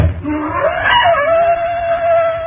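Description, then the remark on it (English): Black panthers scream in a long, wailing cry that rises sharply and then holds a steady, piercing pitch, loud, over a low rumbling background with no voices. “Why do the panthers scream?”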